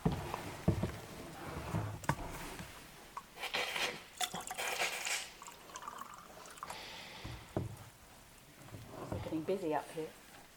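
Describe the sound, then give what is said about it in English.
Water pours into a glass in a few short splashing bursts as it is served to a speaker on a stage, with murmured voices and shuffling around it and a voice near the end. “can I have some water, please?”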